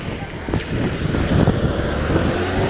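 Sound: car driving past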